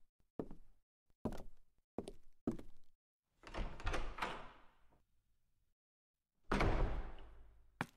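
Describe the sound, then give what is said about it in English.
A portrait door leading out of an empty common room opens and closes: four sharp thumps, then a long scraping swing that fades, and finally a loud, heavy shut, with no voices. “You head downstairs into the now empty common room, and straight out the portrait door.”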